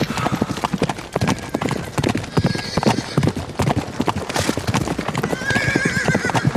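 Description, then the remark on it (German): Rapid, rhythmic hoofbeats of several horses that have broken loose from an overturned horse-drawn carriage, galloping away hard, with loud, shrill neighs breaking out near the start and again toward the end over the steady drumming. “Die Pferde, sie gehen durch, sie galoppieren einfach davon.”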